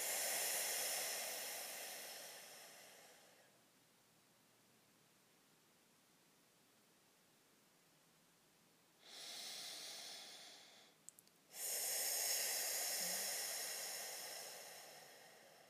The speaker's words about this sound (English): Allowing yourself to relax and ground your energy here in this now moment, continuing to breathe and letting go of anything not serving in this moment. Breathing deeply and fully.